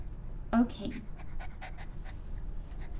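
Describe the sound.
A person on the floor imitates a puppy, giving a short high yelp followed by a quick run of breathy panting huffs, fairly soft against a low background hum.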